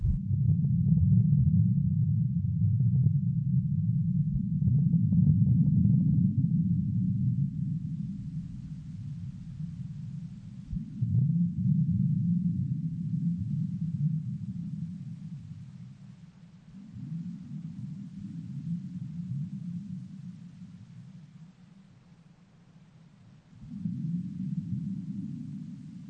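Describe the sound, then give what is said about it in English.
Sonified seismic waves: a low, throbbing rumble that swells and fades in about five broad pulses, each lasting a few seconds and caused by the waves focusing on one side of the earth or the other as they travel around the globe 5 times in 24 hours, with a faint hiss above and no voices. “You can hear about 5 distinct pulsing sounds, and each of those pulsing sounds is caused by the waves focusing on one side of the earth or the other.”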